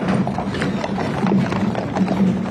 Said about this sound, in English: A horse-drawn caisson carrying former President Jimmy Carter's casket has just arrived at the Capitol after a trek through the streets of Washington, D.C.